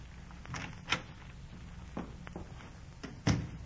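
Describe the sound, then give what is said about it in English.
A door is opened and shut, a few sharp clicks and knocks spaced out over a steady low hum, with no one speaking. “I see the door.”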